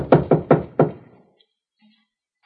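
knocking on a door

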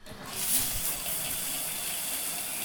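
shower water spraying

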